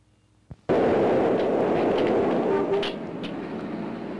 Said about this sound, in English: Guy coming up out of the subway. City sounds.